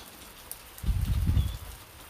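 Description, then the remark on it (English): Rain falls in a steady, soft hiss outdoors during a storm with some lightning, and a deep low rumble of distant thunder swells up for about a second midway before fading back into the even patter. “I love how during rain and during snow, everything stops for a while, sort of pauses and waits.”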